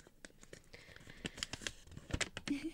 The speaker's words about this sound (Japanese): 私の今目の前に、うん、箱の中に紙がいくつか入ってるんですけど、これをじゃあ引きますね、 うん、 ガサガサポン。